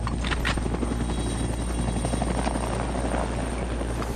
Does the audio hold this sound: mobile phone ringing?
no